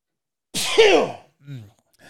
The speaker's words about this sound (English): A little bit of sneeze in there. I tried to mute myself. Sorry.